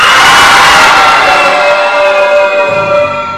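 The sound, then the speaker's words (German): A loud crowd of children shouts and screams together on a count of three, as loud as they can, in one sustained burst, many high voices blending into a bright, roaring wall of sound that fades slightly toward the end. “dann schreit auf drei, so laut ihr könnt mal.”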